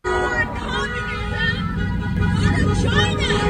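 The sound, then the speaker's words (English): Car horns blare in long, overlapping tones over a steady rumble of traffic at a street protest, as protesters try to force healthcare workers out of their way, with a crowd shouting and murmuring underneath throughout. “Now, I don't know if you could hear that among the honking horns as the protesters were trying to force the healthcare workers to get out of their way.”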